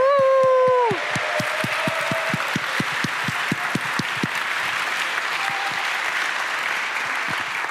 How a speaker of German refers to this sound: im Saal und steht kurz auf und bekommt einen donnernden Applaus dafür.